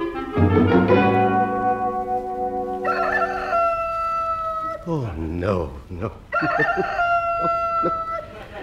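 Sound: chicken crowing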